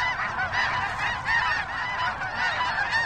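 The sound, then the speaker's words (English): A large flock of migrating geese honking continuously in spring as they head north to breeding grounds, many overlapping calls forming a loud, dense chorus that stays steady throughout, with no voices present. “Some of the goose species go all the way up to northern Canada, Alaska, and even Siberia.”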